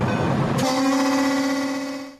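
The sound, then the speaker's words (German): A train's warning horn in the Czech Republic blares in one loud, sustained blast, steady in pitch, fading out at the end after a brief rumble of the approaching train. “In Tschechien ist das Warnsignal der Züge ziemlich oft zu hören.”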